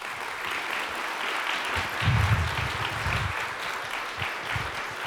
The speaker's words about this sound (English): You got the applause anyway.